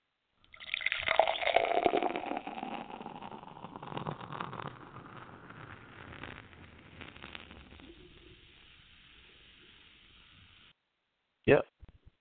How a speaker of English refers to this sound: You know, a matter of fact, I'm going to pour myself a beer.